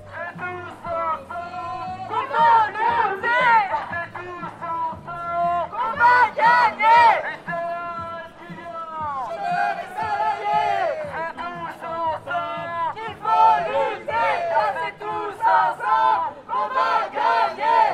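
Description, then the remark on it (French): A protest march crowd at the back-to-school demonstration in Lille on 5 October chants in loud, rhythmic bursts of many voices shouting together, with brief pauses between phrases and a steady background murmur of people. “On est toujours à la manif lilloise du 5 octobre, la manif de rentrée.”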